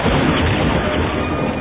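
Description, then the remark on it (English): A grav truck explosion erupts into a loud, continuous roar of dense, rumbling noise that stays at full strength throughout, with crackling debris textures and no voices. “The grav truck exploded.”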